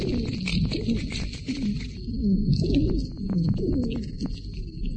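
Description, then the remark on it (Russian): Noisy, labored asthmatic breathing at the height of an asthma attack, filled with musical wheezes: low, cooing, whistle-like tones rise and fall in a continuous rhythm, with a thin, steady high whine running above them throughout. “Дыхание становится еще более шумным и свистящим.”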